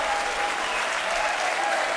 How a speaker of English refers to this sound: Let's give the Lord a clap and a shout of praise. Hallelujah.